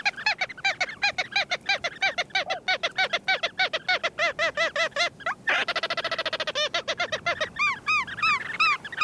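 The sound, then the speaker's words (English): A flock of Ross's gulls calls continuously, with rapid, overlapping high-pitched yelps repeating; around the midpoint a burst of faster chattering notes breaks in. No one speaks. “Ross's gulls breed on the coast of Greenland and northern Siberia, where they feast on flying insects hawked from tundra ponds.”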